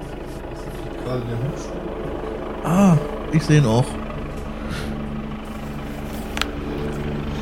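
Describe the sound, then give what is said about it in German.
A police or rescue helicopter's steady, low engine-and-rotor drone fills the background throughout as it lands right by the speakers, constant, while a couple of people talk briefly over it. “Also ich glaube aber wirklich, hier ist gerade ein Polizei- oder Rettungshubschrauber direkt bei uns gelandet.”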